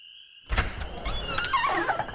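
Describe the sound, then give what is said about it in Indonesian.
A house door is opened from inside for arriving visitors before they can knock, with a sudden thunk after a faint steady hum, followed by a wash of outside noise and some thin, wavering squeaks. “Sebelum mereka mengetuk pintu, aku langsung bukakan pintu.”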